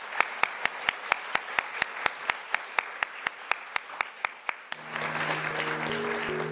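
Audience applause at the close of an LSE event talk: clapping in a steady, even rhythm of about four claps per second, then a denser burst of applause-like noise with sustained low musical tones coming in near the end.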